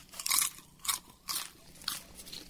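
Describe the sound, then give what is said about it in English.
Crunchy chewing of popcorn freshly popped on a stove, four bright crackly bursts in a steady rhythm with brief pauses between bites, fairly quiet and with no talking. “Good popcorn.”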